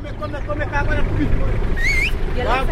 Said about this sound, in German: Der Assistent eines Kleinbusfahrers ruft Kunden herbei. Matatus, wie die Busse heißen, sind in Kenia das Massenverkehrsmittel.